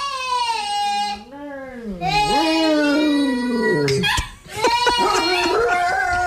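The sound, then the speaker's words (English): In a viral video, dogs howl in long, wavering, sliding tones that rise and fall together with a little girl's high singing voice. The sound stays loud throughout, breaking briefly before choppier yelps toward the end. “But don't know if you saw the viral video of the little girl singing, and her dogs don't like it.”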